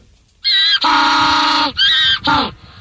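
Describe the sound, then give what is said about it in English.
A penguin brays loudly: a short nasal note, then a long sustained honk, then two shorter bursts. The call is harsh and harmonic, with two layered tones almost like a harmony. “Like, it's almost like two donkeys, but two penguins.”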